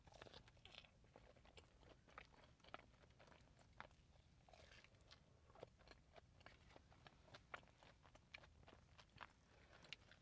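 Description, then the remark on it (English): Steady chewing of frozen mango candy with fresh mango inside, starting to melt, with repeated soft crunches and moist bites in an irregular rhythm over a quiet background, and no talking. “They started to melt, so it's not so crunchy anymore. The fresh mango inside is so good.”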